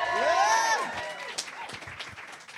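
An audience applauds and cheers as comedian Shane Todd is introduced, opening with high rising whoops and whistles over a wash of clapping that then settles into scattered, steady handclaps for a couple of seconds.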